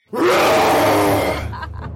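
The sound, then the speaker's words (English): A person voices a single loud, growling roar in imitation of a beast, rough and throaty, holding for over a second before trailing off into a breathy rasp. “Can you do your best roar for me?”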